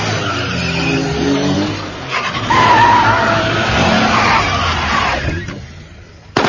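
A loud car chase as one car pursues another beside a bridge, engines growling steadily while tires screech in a sharp, high skid midway through, then the noise drops off abruptly near the end.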